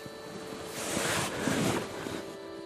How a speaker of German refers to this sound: Wind. Ja, mein Gott. Da ist ja eine kleine Brise aufgekommen.